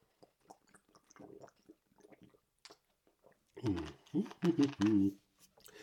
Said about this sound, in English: I'm gonna take a sip of water. Because I can't have dry mouth.